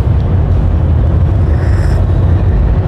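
A ferry's engines start and rumble with a deep, steady, loud drone throughout as the ferry begins slowly moving off, joined briefly by a faint higher whine partway through. No one speaks.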